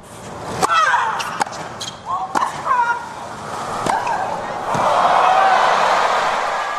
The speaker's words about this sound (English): And that sound from the match between Serena and Venus Williams. They played before a sold-out crowd that included celebrities like Oprah Winfrey, Kim Kardashian, and Donald Trump.